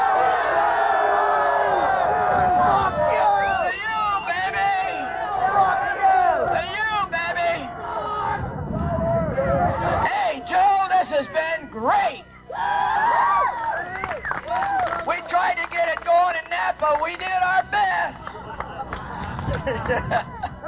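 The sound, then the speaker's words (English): A large crowd yells and screams together toward Claremore about the FBI in a loud, sustained roar of overlapping voices, with shouts rising and falling for about twenty seconds, dense throughout. “There's probably about 35 of those fake queers down there, and I want you to yell over to Claremore what you think of the FBI!”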